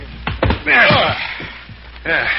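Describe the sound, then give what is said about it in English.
A man's heavy body is heaved into a car by several men, landing with a couple of dull thuds and a solid thunk, amid straining grunts and brief voices. “Help me throw him into the car.”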